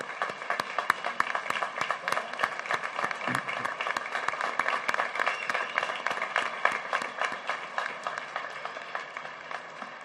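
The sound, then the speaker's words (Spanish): An audience applauds the priests steadily for about ten seconds, a dense, even wash of many hands clapping at once with sharp individual claps standing out, holding constant loudness without any voices over it. “Agradezco también, sí, aplaudamos a los sacerdotes.”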